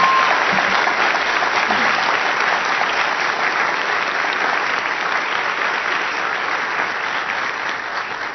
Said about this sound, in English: And one final round of applause for our debaters for the job they did tonight.